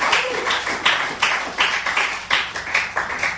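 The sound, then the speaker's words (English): A few people clap in a steady, fairly quick rhythm, about three claps per second, with bright, crisp slaps that are moderately loud and continue for several seconds without any talking. “Can we give a weight loss clap?”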